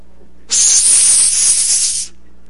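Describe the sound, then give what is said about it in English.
Steam hisses from a pressurized pipe during a pressure test, in one loud, steady burst lasting about a second and a half, bright and airy, then cuts off abruptly, leaving a faint low hum underneath. “But if it was a bad pipe, steam would come out and they'd begin to squeal.”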